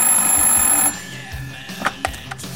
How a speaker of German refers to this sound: Plötzlich klingelte das Telefon.